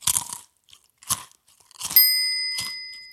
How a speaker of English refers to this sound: He munches cookies and a chicken leg.